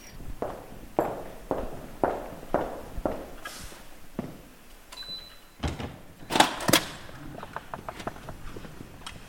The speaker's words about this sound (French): Alors, le volume des salles, à chaque fois qu'une porte s'ouvre, c'est toujours très impressionnant.